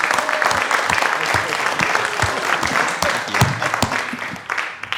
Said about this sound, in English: Let's give one more round of applause to Lynn Fuston for all his hard work in making the technology of today happen.